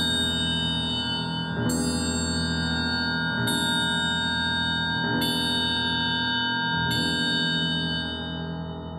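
An old castle clock strikes slowly, five evenly spaced bell-like chimes about two seconds apart, each ringing out loudly and sustaining its rich tone into the next. No voices.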